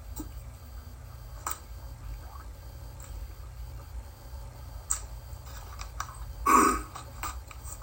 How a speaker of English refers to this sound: I've been dealing with allergies, so I've been trying to stay hydrated with water, and that's coffee I'm drinking right there. It helps with your sinus drainage and all that.